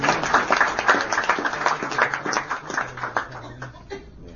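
A round of applause from a crowd at a LAFCO meeting for a departing staff member, dense rapid clapping that holds steady for a few seconds, then thins and tapers off, with a bit of chuckling mixed in.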